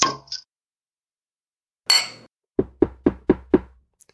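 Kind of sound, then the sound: impact, knocking on a door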